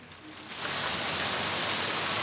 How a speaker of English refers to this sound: Rain cascades off the front of the Wyvern building as the transplant car drives underneath it, then turns to pull up outside the canopied entrance.